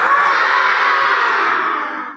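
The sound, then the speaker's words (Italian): A loud, sustained lion-like roar, apparently voiced by a person imitating a lion, holding steady for about two seconds before trailing off, heard on its own without talking. “Il ruggito era tornato.”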